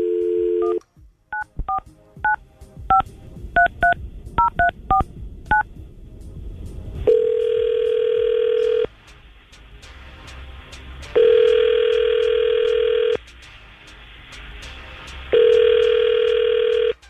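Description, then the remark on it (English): A quick run of about ten touch-tone keypad beeps, then the line rings three times in long, evenly spaced tones with short pauses between them. No one speaks. “we're going to try to call Marissa right now and see if we can get her on the phone”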